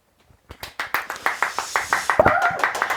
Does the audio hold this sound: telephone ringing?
no